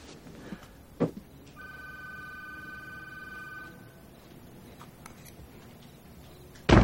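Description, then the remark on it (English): A telephone rings once in a single steady electronic trill lasting about two seconds, clear. A soft thump comes before it, and a sudden loud noise cuts in at the end. “Who's calling at this hour?”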